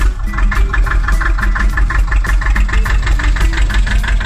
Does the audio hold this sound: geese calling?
no